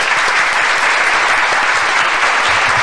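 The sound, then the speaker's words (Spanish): Steady, loud audience applause fills the whole stretch, a dense wash of many hands clapping at once with no pauses and no voices breaking through. “Bien, aplauso, aplauso. Aplauso, sí, eso sí.”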